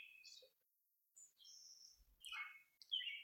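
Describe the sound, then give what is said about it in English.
Several birds chirp and tweet in short, high-pitched bursts, some quick trills and whistled notes overlapping, heard fairly faintly with quiet gaps between calls and no one speaking. “So thank you for sharing these birds as we talk.”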